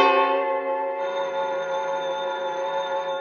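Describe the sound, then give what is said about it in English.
A telephone bell on a private line rings steadily and fairly loud for a few seconds, its bright metallic tone holding without a break, with no voices around it. “When I got the bell, I thought fast.”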